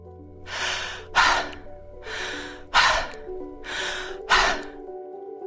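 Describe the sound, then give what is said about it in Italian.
A person takes three deep breaths in and out through the mouth, like sighs of relief, each a soft drawn-in inhale followed by a stronger, gusty exhale, evenly paced, with no talking. “Quindi, tutte le volte che ti accorgi di essere in apnea o di respirare poco, fai tre bei respironi con la bocca, che significa che devi sia inspirare che espirare attraverso la bocca, come se fossero dei sospiri di sollievo.”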